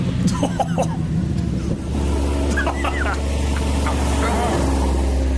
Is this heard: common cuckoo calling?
no